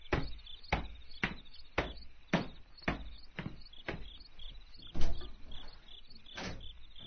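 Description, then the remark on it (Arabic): A door being opened at night, heard as a steady series of sharp clicks and thumps about every half second, moderately loud, with a faint hiss between them and no voices. “افتحي الباب”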